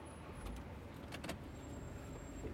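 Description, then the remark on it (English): A car engine rumbles steadily, with a few brief clicks and rattles partway through as a key is turned in the ignition of a friend's car and the car starts to pull out of a driveway. “turns the key in the ignition of her friend's car and starts to pull out of the driveway.”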